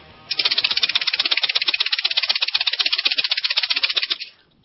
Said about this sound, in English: And there's a rattlesnake in the room. I apologize for that.